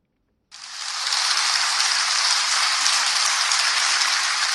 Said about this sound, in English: Hundreds of children from schools in Yaoundé glued to their TV screens applauded Wednesday as Davina Maloum was given the International Children's Peace Prize for 2019 in The Hague on the occasion of Universal Children's Day.